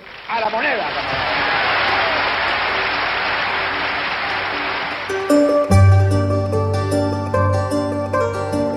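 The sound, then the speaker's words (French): A jubilant crowd in Chile, November 1970, celebrating Salvador Allende's election as president, cheers and applauds in a loud, steady roar for about five seconds, then music with sustained, brassy tones enters and takes over. “Novembre 1970, la foule est en liesse.”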